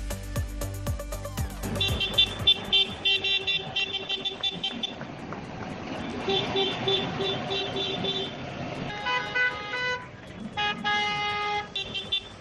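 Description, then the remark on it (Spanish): About 400 tractors, farm vehicles, trucks, vans and private cars honk at once during a farmers' protest in the city of Murcia, in overlapping, sustained blasts of differing pitch, with loud rumbling engines beneath and short pauses between bursts of honking. “400 tractores, vehículos agrícolas, camiones, furgonetas y vehículos particulares colapsan a esta hora la ciudad de Murcia.”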